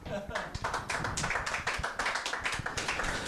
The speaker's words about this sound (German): Applaus.